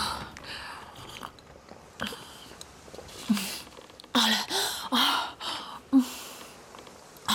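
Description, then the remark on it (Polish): Eager gulping of water: a run of quick swallows with wet, throaty clicks, coming in uneven bursts between short breaths and sniffs. “Może wody, księżniczko? Rzeczywiście, łyka chętnie.”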